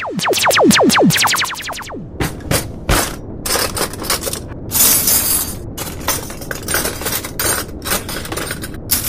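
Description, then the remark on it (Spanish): A pile of about a ton of collected cutlery clanks and clatters continuously, with bright ringing metallic tones at the start giving way to a dense, irregular jangle of loud clinks and scrapes. No voices. “Desde que a Daniel se le ocurrió recoger una tonelada de cubiertos, estamos con ese clan clan zumbando en la cabeza todo el día.”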